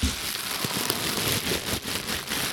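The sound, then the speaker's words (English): A paper receipt from Xing Xiong is rustled and crinkled, making a steady, dense crackling noise with small irregular pops throughout, and no voices. “This receipt is from Xing Xiong. Can you hear this paper?”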